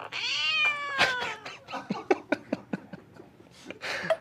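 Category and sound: animal, cat meows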